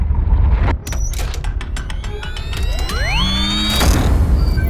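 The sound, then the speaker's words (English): A door swings shut behind someone stepping outside, with a series of sharp mechanical clicks as the latch catches, plus a rising creak, over a low steady rumble. No one speaks. “I closed the door behind me as I stepped out into a cold I could no longer feel.”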